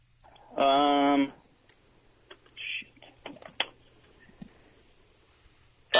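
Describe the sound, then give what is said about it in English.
A quiz time-up buzzer blares once as a contestant answers a comic book hero question just in time, a loud, harsh sustained buzz lasting under a second, followed by quiet scattered clicks and taps. “Yeah, he got it at the buzzer.”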